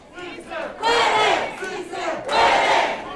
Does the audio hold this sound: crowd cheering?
yes